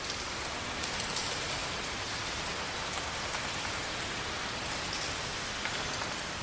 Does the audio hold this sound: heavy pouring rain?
yes